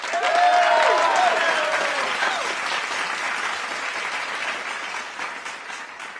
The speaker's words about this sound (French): Tout le monde applaudit.